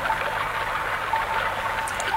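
A small, crystal-clear stream babbles steadily as it winds among worn rock ridges, a continuous, fairly loud wash of trickling and splashing water with no voices.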